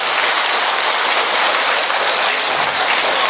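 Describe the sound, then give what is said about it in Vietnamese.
A church audience bursts into loud, sustained applause to welcome non-Christian visitors, a dense, even crackle of many hands clapping at once that holds steady for several seconds with no voices heard. “Giơ cao hai tay lên coi, mời anh chị em giơ hai tay lên để chúng tôi vỗ một tràng pháo tay thật lớn để đón chào những anh chị em đó.”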